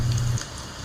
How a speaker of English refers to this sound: But I also remember the wind. The sound of the wind. And the rain.